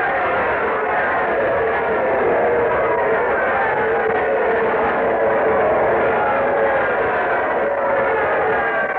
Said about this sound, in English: There's Isaac Cray coming down the aisle. Oh, the crowd's giving him quite an ovation. Listen.